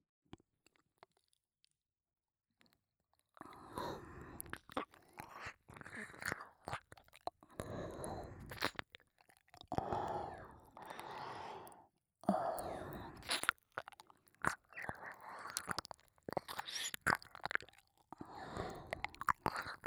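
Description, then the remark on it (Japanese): Wet, sticky ear-licking mouth sounds with soft clicks and smacks, mixed with slow audible breaths. After a few seconds of silence they continue steadily and fairly quietly, with no speech. “僕の吐息や水音なんかでチンポ反り返らせてる変態さん。”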